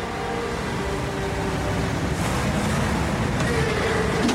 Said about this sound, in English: Outside, the black truck is signaling to turn right. A gray sedan cuts in front of it, onto Nakatomi Plaza. The truck takes a ramp down to the garage as the car drives on.